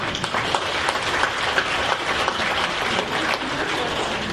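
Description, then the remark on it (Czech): Many people applaud steadily, a dense, even patter of many hands clapping at once, sustained without any break or swell, as thanks to a man who is not present. “A já si myslím, že jemu můžeme poděkovat potleskem, protože tu není tedy.”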